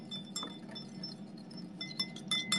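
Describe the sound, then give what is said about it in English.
A small whisk clinks rapidly against a bowl while making hot sauce, bright metallic taps repeating in quick uneven bursts over a low steady hum, growing busier toward the end. “Baby whisk.”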